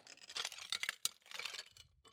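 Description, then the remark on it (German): Gritty crunching and scraping of glass shards underfoot on the floor of dark corridors in an eerie abandoned building, with a few sharp clinks and crackles spread over about two seconds, fairly quiet and with no voices. “Hier sind ja lauter Scherben auf dem Fußboden.”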